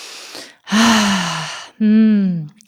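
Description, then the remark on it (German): A deep breath: a brief noisy inhale, then two long, loud exhales with a voiced, sighing quality, one after the other. “Oh, ich muss erstmal tief atmen.”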